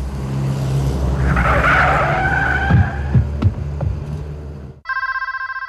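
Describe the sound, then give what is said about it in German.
After several seconds of tires skidding and engine noise, the scene cuts abruptly to a telephone ringing loudly, its trilling electronic tone starting just before the end. “Ich wusste, wer es war. Aber ich ging nicht ans Telefon.”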